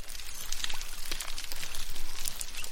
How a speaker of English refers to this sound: If you were to stick a microphone into the water in some parts of the Indian and Pacific Oceans, alongside the snapping sounds of prawns, you might hear some munching and squeaking noises. The animals responsible are dugongs.